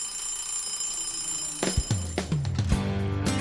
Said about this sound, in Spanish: por favor, que suene la campanilla.